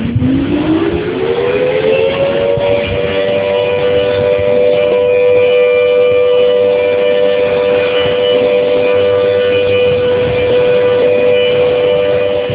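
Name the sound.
civil defense siren sounding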